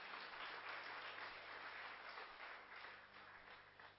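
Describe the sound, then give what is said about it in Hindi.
Steady applause from the audience of a spiritual session, applauding themselves; a dense wash of many hands clapping at once that holds fairly even for about four seconds and eases slightly toward the end, with no voices over it. “जोरदार तालियां अपने लिए।”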